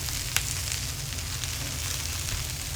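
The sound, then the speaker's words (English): Steady sizzling of dumplings frying in hot oil in the small kitchen of Ahan, a restaurant in Madison, a continuous crackling hiss over a low kitchen rumble, with one brief sharp pop near the start. “Water is boiling, chicken is roasting, and dumplings are frying.”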